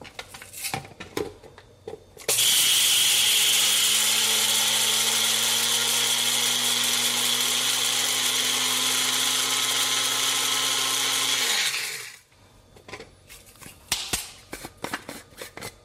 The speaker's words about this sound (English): All right, now let's get our spices ready. Gonna get some red Sichuan peppercorns in here, as well as some white peppercorns. And we're just gonna grind this until it's pretty fine.